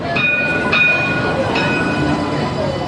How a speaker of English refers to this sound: It's been a long journey. Trams returning to Sydney's CBD for the first time in more than half a century.